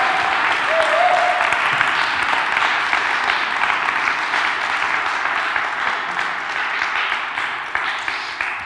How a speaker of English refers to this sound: can we give them a very big round of applause and cheer?